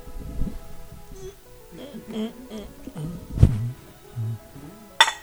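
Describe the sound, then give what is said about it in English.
Voices and laughter murmur, then near the end comes a single sharp, bright clink of drinking glasses knocked together in a toast, loud, ringing briefly. “Crash, shatter both glasses.”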